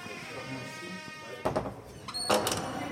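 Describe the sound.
A door is opened and pushed through, with two brief clattering, sliding bursts about a second apart over a steady background hum and faint voices.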